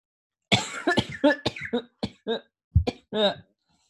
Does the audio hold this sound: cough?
yes